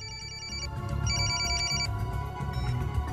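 cell phone ringing

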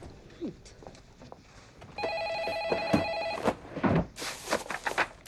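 intercom ringing

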